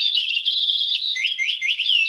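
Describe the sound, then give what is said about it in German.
A parrot-like bird character in a video game calls continuously in high, warbling chirps and squeaky tweets, fairly loud, with no one talking over it; it sounds parrot-like but unusually shrill and trilling. “Die klingt auch ein bisschen anders als ein normaler Papagei.”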